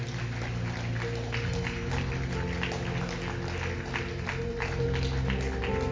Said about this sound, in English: Let's give Him a hand clap of praise one more time.